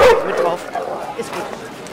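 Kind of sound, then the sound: animal, dog barking loudly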